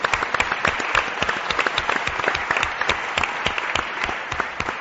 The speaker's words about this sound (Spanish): Un aplauso para ellos.